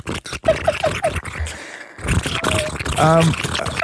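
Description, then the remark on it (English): A voice imitates water boiling in a pot: a steady breathy hiss with a few quick bubbly pops early on, rising into a louder gurgling rush with a brief hummed tone near the end. “Water boiling in a pot.”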